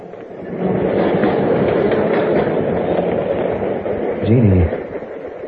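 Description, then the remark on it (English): A subway train rumbles steadily along the rails, a loud, continuous roar, with a brief tonal whine rising out of the noise near the end. “They had dinner and danced a lot, then took the subway home.”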